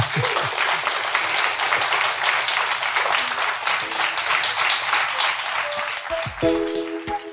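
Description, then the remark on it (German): Sustained applause from an audience for a guest, a dense wash of many hands clapping at steady loudness for several seconds, with a brief tonal sound emerging near the end as it fades. “Bitte großen Applaus für unseren Gast.”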